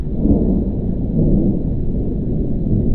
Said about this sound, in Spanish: Fue ahí cuando escucharon la tormenta. Lejana, pero retumbando en lo alto. Relámpagos que no iluminaban el cielo, pero se sentían en el pecho.